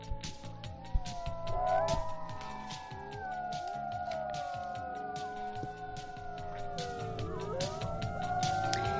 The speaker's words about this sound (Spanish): Con estos aullidos viene nuestro biólogo Fernando López Mirones